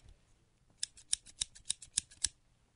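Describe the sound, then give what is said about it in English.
Scissors snip through a stuffed toy named Dick Justice, filled with little plastic pellets, in a quick series of about eight crisp cuts at a steady rhythm, with a faint rustle of fabric and no voices. “Hey, cut open Dick Justice real quick, would you? Yeah, I have some scissors in here.”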